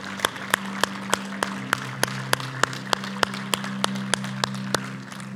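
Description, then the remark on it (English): A church audience claps in unison in praise of the Lord, a steady beat of sharp, evenly spaced hand claps, about three per second, over a sustained low organ-like drone. No voices are heard. “One more time, give the Lord a hand clap of praise with me.”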